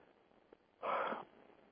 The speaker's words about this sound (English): Well, a lot of yawning here.